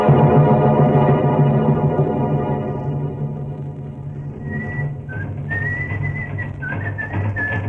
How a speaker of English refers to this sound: Say, what about this guy you hear a whistling and punching that bag? What about this guy, huh?